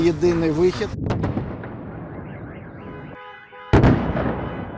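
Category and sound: impact, explosions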